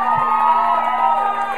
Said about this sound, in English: Let's give Jesus a better hand clap than that. Come on, let's give Jesus.